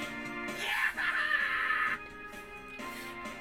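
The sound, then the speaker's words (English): A single shrill, blood-curdling scream from the batter box rises sharply and holds for about a second and a half, loud, before cutting off into quieter background noise. “In the next moment, I hear a blood-curdling scream from the batter box.”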